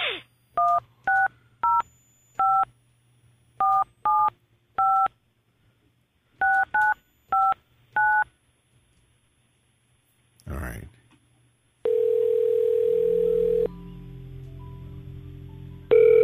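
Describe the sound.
A touch-tone phone number is keyed in, a quick run of clear beeps in short bursts, then a click and a steady ringing tone on the line before a voice answers.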